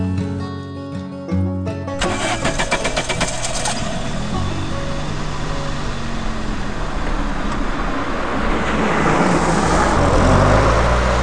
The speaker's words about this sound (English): A small car travels down a desolate gravel road. A girl in a white cotton dress watches as the car tail lights disappear into the night.